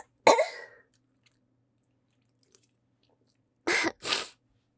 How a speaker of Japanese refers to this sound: 失礼しました。ちょっとね、アレルギー持ちで、くしゃみが止まらないことがあるかもしれないんですが、その辺はご了承ください。